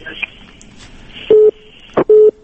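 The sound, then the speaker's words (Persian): After a caller's line drops during a Radio Azadi call-in program, a phone line gives two steady, medium-pitched beeps, each about a quarter second long, with a sharp click between them over faint line hiss. “متاسفانه چه تلفن قطع شو.”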